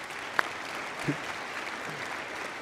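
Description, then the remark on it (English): A church audience at Hudson claps steadily for a few seconds as 33 babies are dedicated, a soft, even wash of many hands with a sharp click near the start and a faint low voice murmuring underneath. “It's funny, you're clapping for, you know, church growth the old-fashioned way, you know, biological reproduction.”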